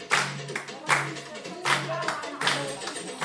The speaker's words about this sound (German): Irgendwann bildet sich ein Kreis. Darin tanzt eine der Frauen, allein. Die anderen klatschen, feuern sie an.